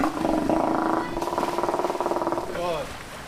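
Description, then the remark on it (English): Steller sea lions at the Alaska Sea Life Center roar and growl in a steady, throaty drone with a pulsing texture, ending in a short rising-and-falling bellow. The calls are fairly loud. “If you listen to them enough, you can tell which animal is vocalizing. They have their own pitch.”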